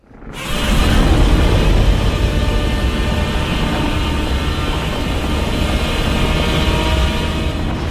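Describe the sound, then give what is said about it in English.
The newly redesigned Godzilla roar from the upcoming 2014 movie bursts in after a brief pause and holds for about seven seconds, a loud, rumbling, grinding bellow with layered metallic tones, steady and unbroken, with no voices. “Stomping, and then the roar, and 2014, here's the newly redesigned roar from the upcoming movie.”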